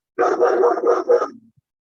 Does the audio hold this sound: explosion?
no